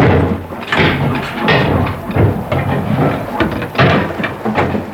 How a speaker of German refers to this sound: Mit heftigen Hammerschlägen machte sich der Schmied an die Arbeit, während alle anderen neugierig drumherum standen.